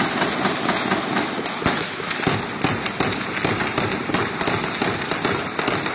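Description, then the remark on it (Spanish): Rapid, sustained gunfire: dozens of sharp, loud cracks in quick, uneven bursts that run without pause for the whole stretch, over a noisy background with no one talking. Gunshots in video footage sent from a community in Michoacán, Mexico, near Nuevo San Juan Parangaricutiro, where armed groups have closed access roads. “pues son justamente las imágenes, los balazos, los audios de la gente que desde esta comunidad, pues es cercana”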